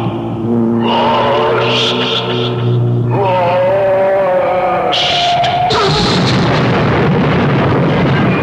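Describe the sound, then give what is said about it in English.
A car engine whines and strains, then gives way to a loud, sustained crash and roaring rumble as the car plunges over a canyon and smashes apart. “You're right over the canyon. But the car. Not the car.”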